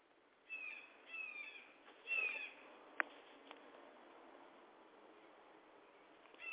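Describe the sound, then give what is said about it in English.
Birds chirp in short bursts of high, thin calls against a steady background hiss, with a sharp click partway through and no one talking. “And there go them birds back again.”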